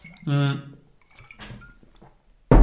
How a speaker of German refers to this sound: So, ich nehme jetzt ganz kurz einen Schluck Wasser.